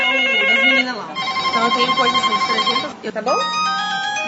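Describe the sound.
Several telephones ring at once at a water distributor in Maringá, their bright electronic ringtones overlapping in a continuous, warbling melody, with voices faintly audible underneath; they have been ringing like this since Sanepar announced an interruption of the water supply.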